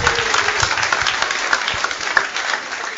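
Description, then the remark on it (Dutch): Steady, dense applause from a studio audience as a contestant is sent off, many hands clapping at once in a continuous wash of sound with a few sharper claps standing out, fairly loud throughout. “Maar ongetwijfeld onder een warm hart applaus van het publiek.”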